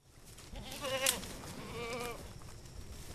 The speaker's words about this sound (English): They call their service all-natural brush clearing, and this backyard in Milford is the goats' last job for the season.